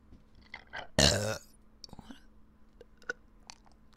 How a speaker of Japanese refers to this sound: なんかちょこちょこ出てるゲップが。